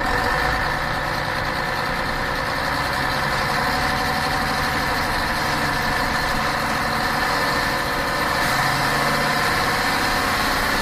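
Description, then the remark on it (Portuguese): A bus engine idles steadily, a continuous low rumble with a dense mechanical hum that holds at an even, fairly loud level throughout, with no voices present. “Tá ouvindo o motor desse ônibus aí? Quando você ouvir esse barulho do motor do ônibus roncando”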